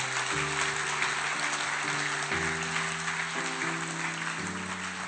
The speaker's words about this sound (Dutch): Zul je een groot applaus geven? Want dit zijn de grootste wonderen die kunnen gebeuren.